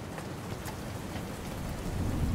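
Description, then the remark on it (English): Raindrops patter and click steadily against a window, with a few sharper taps standing out over a soft, continuous hiss and a low background rumble. No voices. “All that was left was the sound of the raindrops clicking against the window.”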